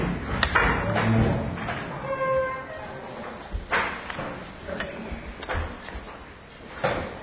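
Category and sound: household object, door being closed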